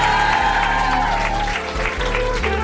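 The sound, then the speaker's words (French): An audience applauds steadily, a dense wash of clapping at an even, fairly loud level for a few seconds, with a low hum running underneath and no one speaking. “Merci beaucoup, on les applaudit.”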